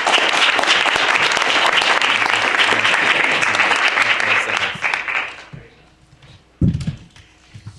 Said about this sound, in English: Let's give everyone, especially the Internet Society, a round of applause.